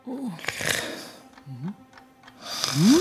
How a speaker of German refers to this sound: Der Postbote, was tut er da? So laut schnarcht ja nicht mal die Bäuerin.